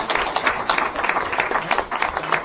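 Audience applause: a dense, steady wash of many hands clapping, fairly loud and continuous for the whole stretch, with no voices standing out.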